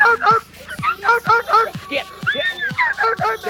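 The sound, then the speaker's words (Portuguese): A dog barks rapidly and repeatedly, about eight sharp, fairly loud yips in a steady excited rhythm with only brief gaps between them. “E eu tô com meu cachorro aqui, eu vou soltar no seis.”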